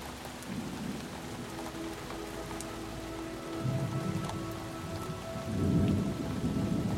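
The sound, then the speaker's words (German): Steady warm summer rain hisses without pause, with scattered drops pattering and deep rolling rumbles of thunder swelling up a few times beneath it. No voices are heard. “Plötzlich ein warmer Sommerregen kommt.”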